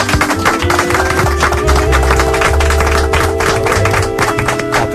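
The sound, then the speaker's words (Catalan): A crowd applauds steadily for about five seconds, a dense, even patter of many hands clapping at a constant moderate loudness, with a low steady hum underneath and no talking. “T'haurem de fer un aplaudiment, perdona.”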